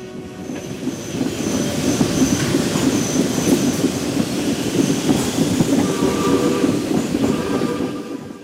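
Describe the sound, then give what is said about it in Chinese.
A train rolls steadily along the tracks, its loud continuous rumble layered with dense rhythmic wheel clatter and faint metallic squeals, without any voices; it accompanies Lincoln's train journey to Gettysburg on 18 November, which stopped in Baltimore. “11月18日，林肯启程坐火车前往葛底斯堡，火车中途在巴尔的摩停低，很多群众在那里迎接他。”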